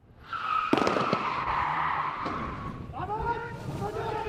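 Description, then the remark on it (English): Car tires screech loudly for a few seconds as vehicles skid to a stop, with a sharp bang-like clatter, followed by raised, shouting voices. This is an arrest drill by an elite Palestinian security forces unit at a West Bank training base, with masked special forces running out of their cars, guns pointed. “And all these special forces guys in masks just ran out of their cars with guns pointed, and they're handcuffing and arresting the suspect, throwing him into an unmarked car.”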